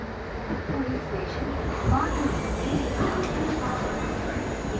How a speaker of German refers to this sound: Der Zug hielt im Bahnhof von Ratnagiri. Sie waren am Ziel.